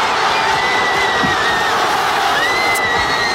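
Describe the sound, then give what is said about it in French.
A huge crowd of Spanish fans roars in celebration after Spain's winning goal in extra time against Argentina (1-0) at the 2026 FIFA World Cup, a loud, unbroken wall of cheering and shouting with shrill whistle-like tones gliding above it throughout. “Et je vous propose pour commencer d'écouter l'explosion de joie des Espagnols.”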